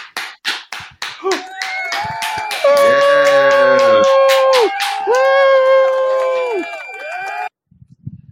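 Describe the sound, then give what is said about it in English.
At a graduation, scattered sharp claps from the audience quickly build into steady applause for the graduates, joined by loud, sustained high-pitched whoops and cheering voices, before everything cuts off abruptly. “Graduates. Hit the applause.”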